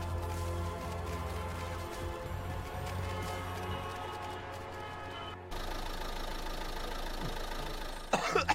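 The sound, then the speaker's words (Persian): A badly running, polluting car engine runs roughly and unevenly, knocking and sputtering with a steady low rumble, fairly loud, briefly cutting out before resuming, with a harsher noisy burst at the end. “یه آلوده کننده یه دیگه. این راننده باید حسابی جریمه بشه، ماشینش اصلا درست نیست.”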